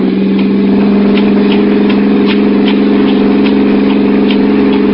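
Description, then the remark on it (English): A car engine hums steadily throughout, a continuous low drone with faint rhythmic ticking on top, heard from inside a moving car. “Please let me out of this car.”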